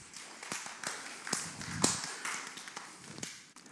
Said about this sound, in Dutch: Zullen we vast wel een applaus geven?